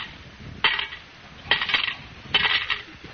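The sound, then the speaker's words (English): Forty cents in coins drop into a kitty for fines in the radio comedy Our Miss Brooks, in three quick bursts, each a bright metallic clink and jingle that settles briefly before the next. No one speaks. “You put 40 in the kitty.”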